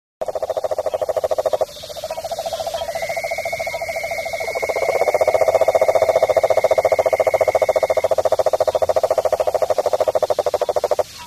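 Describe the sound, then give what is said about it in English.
Cuban tree frogs, a very large tree frog species, call loudly and steadily, a buzzy, rapidly pulsed rasping that runs the whole time, with a second overlapping caller joining and swelling midway, and no voices. “The Cuban tree frog, originally only from Cuba, was brought to Florida through various ways, mostly banana boats.”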